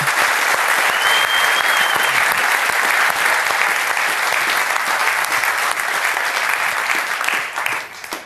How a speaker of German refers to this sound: Bitte einen fetten Applaus für Hansi Küpper. Da sitzt er.